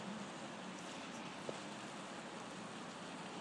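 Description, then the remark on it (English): Steady, fairly soft rain that has eased falls outdoors, a continuous even patter and hiss with one small tap partway through. No one speaks. “it's not raining quite so hard now.”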